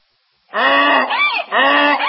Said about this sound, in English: That sounds like a donkey to me!